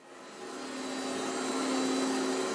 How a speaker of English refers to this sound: A worker whips a vacuum cleaner around a corner inside a small office at Copley Place.